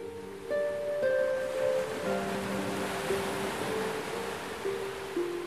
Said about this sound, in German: Du stehst an einem Strand und beobachtest, wie die Wellen des türkisfarbenen Meeres sanft über den schwarzen Sand schwappen.